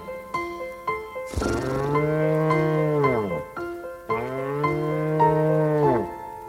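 A bull moos twice in long, deep, drawn-out bellows, each lasting about two seconds and sliding downward in pitch at the end, with no talking.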